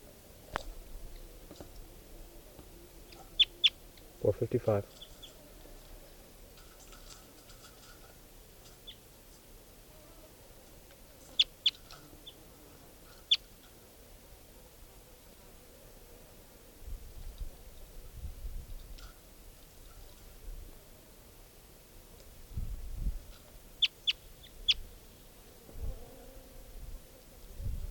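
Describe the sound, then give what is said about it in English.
Bird 455, recorded in a test, gives sparse, brief high-pitched chirps in small clusters separated by long gaps, over a quiet background with occasional low thumps and rustling; no one speaks. “Recording, testing bird 455.”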